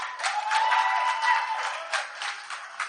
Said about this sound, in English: Yeah, one clap seems stronger than the other.